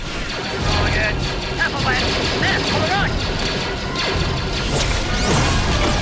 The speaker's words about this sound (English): The tri-droid explodes and Anakin vaults onto another.